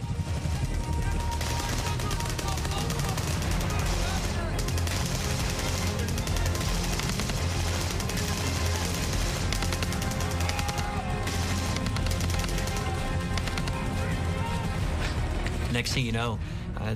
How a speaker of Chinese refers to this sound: 我们看到夜光弹，看到迫击炮和火箭助推榴弹不断爆炸，战斗十分激烈。